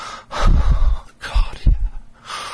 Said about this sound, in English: You do so, making me gasp in your ear.